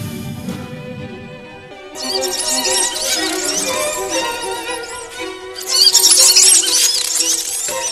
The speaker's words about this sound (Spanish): Los testigos afirmaban que durante la escalofriante experiencia, el hombre alado emitía chillidos como una rata.